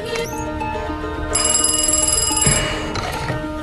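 A car phone in Count Olaf's car rings with a bright, trilling electronic bell, loud, in a sustained burst over a busy tonal background, then fades as the ringing stops.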